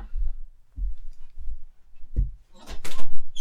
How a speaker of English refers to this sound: Shut the door.